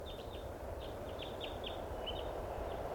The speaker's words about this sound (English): Must be 20 birds. There's a bird right here.